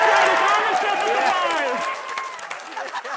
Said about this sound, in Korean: 네, 착륙 소식이 전해지자 서부 캘리포니아주에 있는 나사 제트추진연구소 JPL 직원들이 이 환호성을 올렸는데요. JPL이 바로 이번 임무를 담당했습니다.